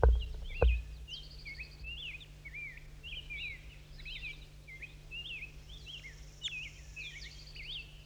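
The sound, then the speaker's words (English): A wild bird calls repeatedly, a steady series of quick, high chirps and short buzzy trills, moderately loud over a low constant hum, with a couple of soft thumps at the start. “That's him. It's a wild bird.”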